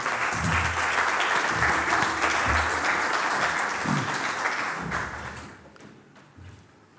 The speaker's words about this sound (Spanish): estos momentos que nos va a dedicar y nada, y pediros un aplauso para él.